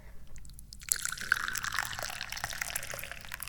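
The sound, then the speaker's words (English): Tea poured from a teapot into a cup, a steady bubbling trickle with small splashes that starts after a brief quiet moment and continues clear to the end. “Yeah, I'm opening up the teapot. I'm pouring some tea.”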